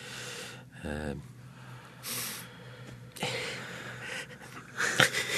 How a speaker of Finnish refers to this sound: tässä selvästi vähän köhinyt, kun hän on tämmöinen iso filosofinen vuo aukeamassa. Ja se on, kun kaikki pyrkii yhtä aikaa esiin, niin siitä just tulee tällaisia outoja äänähdyksiä sitten, kun sanat törmää toisiinsa kurkussa.